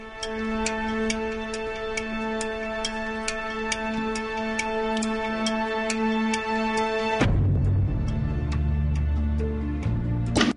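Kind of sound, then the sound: sound effect, clock ticking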